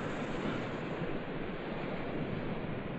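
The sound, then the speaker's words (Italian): A steady, full-bodied wash of surf, ocean waves rolling and breaking on shore in a continuous roar with no pauses, loud, with no voices present. “Intanto noi andiamo incontro alle onde.”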